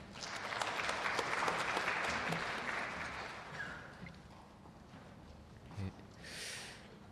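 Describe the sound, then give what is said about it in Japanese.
A group of people at a Christian service claps steadily to welcome someone baptized in December who will give a baptism testimony. The applause is loud and dense for the first three seconds, then thins out and fades, leaving a brief soft thump and quiet rustling. “拍手を持ってお迎えいたしましょう。”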